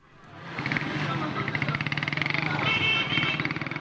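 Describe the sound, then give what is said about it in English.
Motorbike taxi engines buzz and rev in busy rush-hour traffic in downtown Calabar, Nigeria, a dense, continuous drone with rhythmic pulsing as bikes pass, voices mixed faintly into the street noise. “More motorbike taxis than motor cars dominate rush hour in downtown Calabar, the sleepy capital of Nigeria's fertile southeastern Cross River State.”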